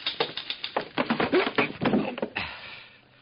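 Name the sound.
typewriter typing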